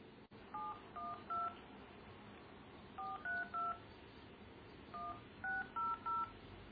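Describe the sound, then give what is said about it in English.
Telephone keypad tones beep in three quick bursts of three, each tone a short two-pitched chirp, over a steady low background hum with no one talking, as someone dials to call back into a conference call. “Okay, so I do a slash and call in again.”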